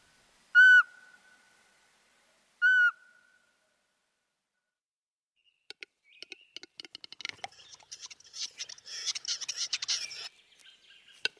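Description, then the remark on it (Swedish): A Eurasian pygmy owl gives two clear, piping whistled notes about two seconds apart, fairly loud, followed by a busy burst of small birds twittering and chirping. “Liksom andra ugglor är sparvugglan beroende av sorktillgången för att upprätthålla livhanken.”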